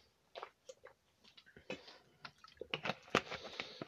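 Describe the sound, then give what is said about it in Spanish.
Someone drinks water: a run of soft, wet gulps and swallowing clicks in an uneven rhythm, growing slightly louder toward the end, with no talking. “De verdad lo lamento amigos, pero sí necesito tomar agua.”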